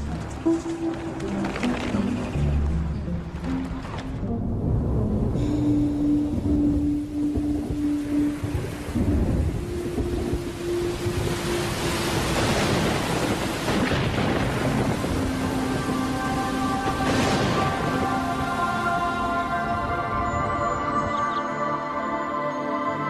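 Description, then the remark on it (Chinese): Heavy, steady autumn rain hisses throughout over the grassland, with a couple of louder rumbling thunder swells. Soft sustained music tones play faintly underneath the downpour. “这下雨了”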